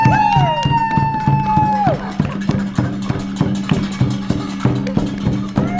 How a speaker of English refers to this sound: By 8 o'clock, people came out of their homes all over the country to applaud. And this is what it sounded like in our neighborhood.